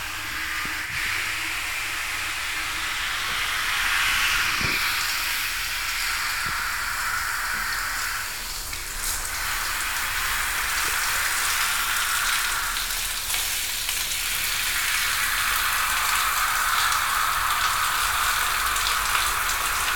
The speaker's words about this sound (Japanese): シャワーかけるから、また目つぶってなさい。